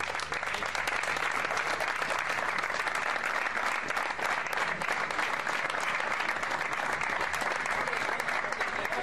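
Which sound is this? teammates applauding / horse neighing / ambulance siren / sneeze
teammates applauding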